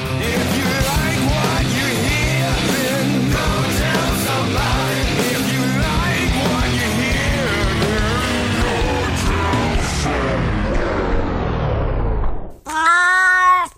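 cat meowing

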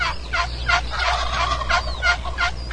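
wild turkey gobbling

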